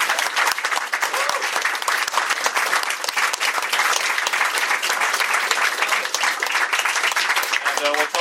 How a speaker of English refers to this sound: But let's give a big round of applause for everybody who worked.